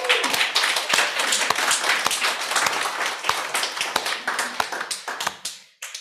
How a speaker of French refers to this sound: Est-ce que vous pensez, ben, on peut déjà les applaudir, je trouve.